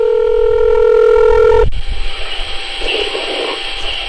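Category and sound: signal or alarm, telephone tones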